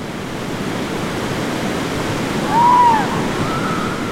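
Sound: flowing river water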